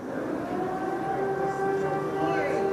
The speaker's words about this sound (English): Back in town, the air siren goes off day and night, but the city hasn't been directly hit.